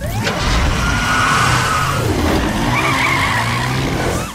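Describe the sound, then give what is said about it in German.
A police car with a blue light, a fire truck with a long ladder and a red four-wheeled quad rev and tear away along the streets with screeching tires, a loud sustained roar of engines and skidding squeals that rise and fall over a few seconds. “Die Freunde rasten los, die Straßen entlang, bis sie zu einem großen, weiten Feld kamen.”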